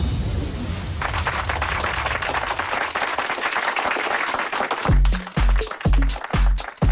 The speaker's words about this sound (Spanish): Mira qué maravilla que nos aplauden por aquí la entrada en este tercer y último bloque del programa de hoy.